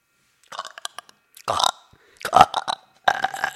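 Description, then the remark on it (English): A few croaky burps come out in short bursts with brief pauses between them, preceded by soft clicky mouth noises, loud, with no talking. “Sorry, I had to burp.”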